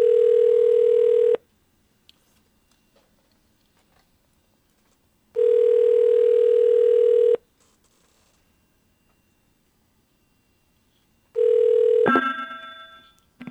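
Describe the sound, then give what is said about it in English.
A landline-to-landline telephone call ringing through the line, three steady ringback tones about a second and a half long with long silent gaps; the third ring is cut short by a click as the call is answered. “And that sounded like a really nice ring you had just now.”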